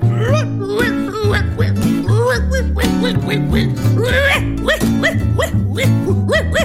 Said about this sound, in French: Oui, c'est moi Rocky le roquet, un vrai chien de garde aux aguets qui aboie toute la journée.